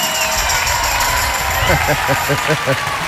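A dense wash of crowd applause and cheering holds loud and steady throughout, with a rhythmic pulsing pattern joining in over the second half.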